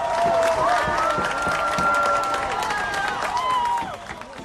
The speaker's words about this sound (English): And police ended up sort of slowly backing up their vehicles to cheers from the crowd.